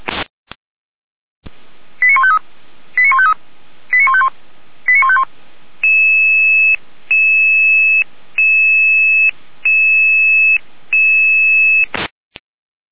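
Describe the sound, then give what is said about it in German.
Radio alerting tones from an emergency dispatch control centre alerting rescue units: four quick bursts of rapid beeps, then a longer run of steady, pulsing paired tones, loud and clear with no voices, framed by sharp radio clicks at start and end. “Leitstelle hier mit Völkeralarmierung.”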